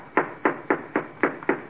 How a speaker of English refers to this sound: Well, here's the giant's house. I'm gonna knock on the door.